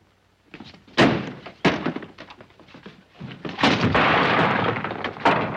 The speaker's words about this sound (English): Don't you dare slam that door!